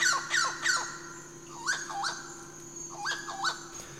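Harsh, squawking calls of a chauá, a coastal lowland parrot whose cry sounds like the word 'chauá', about seven loud rising-and-falling cries in loose pairs and a trio, with no talking and a steady low hum underneath.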